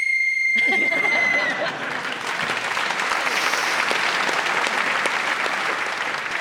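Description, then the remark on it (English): A single sustained whistle blast marking time up in a timed speaking round, lasting about a second and a half, quickly joined and then followed by loud, steady applause from an audience. “Speaking as the whistle went gets the points.”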